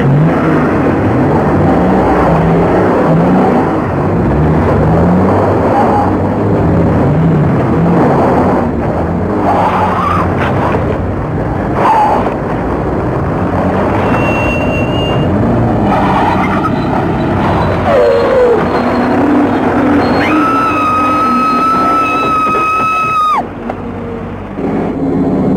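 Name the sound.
truck engine driving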